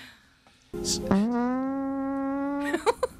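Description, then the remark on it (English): A single long, loud fart with a steady buzzing tone that rises slightly in pitch over about two seconds, then breaks into a few short sputters at the end. “I farted.”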